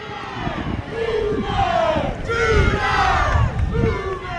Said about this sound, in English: Boomer Sooner being chanted. It's really cool in the stadiums at the Cotton Bowl. One side of the stadium will yell Boomer, and the other side yells Sooner.